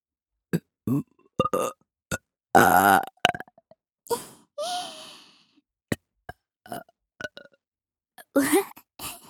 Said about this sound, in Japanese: ゲップが好きなんだって。